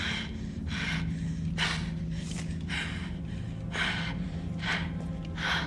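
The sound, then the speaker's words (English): Rapid, ragged breathing gasps, about eight sharp breaths in quick succession over a steady low hum, panicked and uneven, with no talking: a woman's frantic breathing in a film scene as she gropes in inky darkness in the basement of the killer Buffalo Bill. “The only sound we hear during the scene is her frantic breathing as she grasps for something, anything, in this inky darkness while the killer watches her silently with night vision goggles.”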